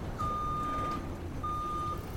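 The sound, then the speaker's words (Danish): Two steady electronic reversing beeps, each about three-quarters of a second long, sound over the low rumbling engine of a truck with a huge tank that collects oil pumped up from the ground, with nobody talking. “Og nu bliver den hentet i en lastbil med en kæmpe tank.”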